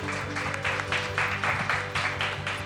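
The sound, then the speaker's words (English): Audience applause for the organizer of an event about alternative transportation, a dense wash of clapping that swells in a steady pulsing rhythm over a low, constant hum, moderately loud throughout with no voices. “How about a round of applause for Dr. Shearhart for organizing this?”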